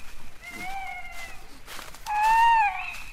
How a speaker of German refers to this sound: Ah, und wegen dieses Commit, Commit, was in der Waldkauzsprache ja eigentlich nur Kiwit, Kiwit heißt, galten Eulen und eben auch der Waldkauz als Totenvögel.